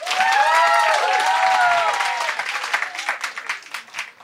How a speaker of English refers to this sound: So after having heard this debate, I'm going to have you applaud to show your stance, yes, no, and undecided. Clap if you think, yes, wokeness is killing comedy.